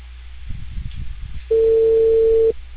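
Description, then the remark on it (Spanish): A telephone ringing tone on a call placed by Cable Perú sounds once, a steady mid-pitched hum lasting about a second, loud against a low, muffled background rumble that precedes it. “momento que timbre.”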